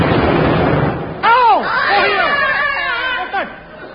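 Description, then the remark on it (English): A sharp, sudden gunshot cracks out after a stretch of hissing noise, followed by voices crying out in wavering, arching tones, with another brief burst near the end. “Did someone fire a gun at me?”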